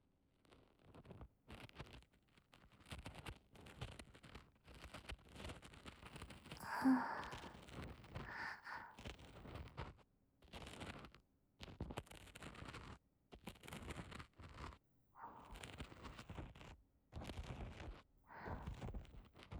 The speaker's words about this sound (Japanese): じゃあまずはヘラ型。A タイプの耳かきを使って、浅いとこから丁寧に。